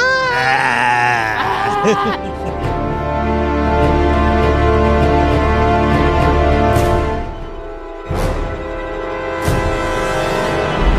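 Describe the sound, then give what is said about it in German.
Goats let out loud, wavering bleats that sound strikingly like screaming people, several cries in a row over a busy, dense background. “Oh, ich liebe die Ziegen.”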